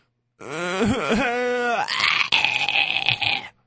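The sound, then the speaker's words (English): A young boy yells at his father on Father's Day in one long, loud burst, the high voice wobbling up and down in pitch before turning harsh and raspy for the last second or so, with no other sounds. “Like, my kids aren't at the age where they can appreciate me, so Father's Day with them, for me, is just them yelling at me. This is my son's way of expressing Father's Day to me.”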